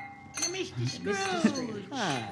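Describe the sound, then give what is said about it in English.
Several glasses clink together in a toast to Ebenezer Scrooge, bright ringing tones overlapping with a few voices murmuring and calling out in the background. “So, I'd like us all to raise a glass to Ebenezer Scrooge, the founder of the feast.”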